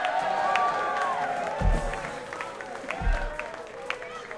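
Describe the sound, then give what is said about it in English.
An audience yells out a happy birthday greeting to Phil, many overlapping voices rising and falling over a steady crowd roar, with scattered cheers, a couple of dull low thumps, and some clapping. “up front, they're yelling out, happy birthday to Phil.”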